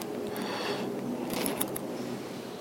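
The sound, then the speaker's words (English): A door being opened, repeatedly, by the tenzo: a steady mechanical rustle and scrape, with a brief burst of sharper clicks and rattling near the middle. No one speaks. “Speaking communication, our Tenzo keeps opening the door.”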